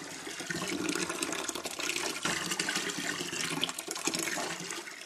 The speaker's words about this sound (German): Deshalb habe ich erneut die Putzeimer herausgekramt und mehrmals Wasser abwechselnd von einem Eimer in den anderen gekippt und außerdem auch sehr viel Hall dem Ganzen noch hinzugemischt.